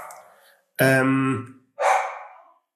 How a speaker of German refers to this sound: Ich bin, hörst du? Da ist es. Da bellt sie.